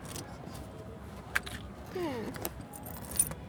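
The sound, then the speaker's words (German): Rasping strokes of a key scraping along the edge of a cardboard box as a person opens it, broken by a few sharp metallic clicks in an uneven rhythm over a low, steady background hum. “Sie streichelt ihr Kartons liebevoll mit einem Schlüssel.”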